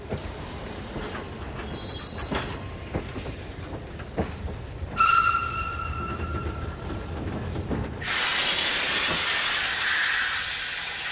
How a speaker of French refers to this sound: Des coups de sifflet que les gosses d'aujourd'hui ne connaissent plus. Ils n'ont jamais entendu un coup de sifflet de train à vapeur.